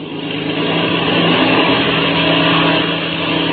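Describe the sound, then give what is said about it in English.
A small black two-seater airplane's engine roars loudly and steadily at daybreak, its droning hum building slightly as it is warmed up and revs for takeoff, with no voices over it. “climbed into the cockpits of the black two-seater and warmed up the engine. Then they start their takeoff.”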